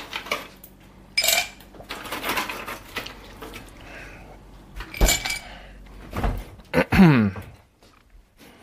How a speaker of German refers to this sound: Ja, die Eiswürfelmaschine. Ein sehr gerne gehörtes Geräusch.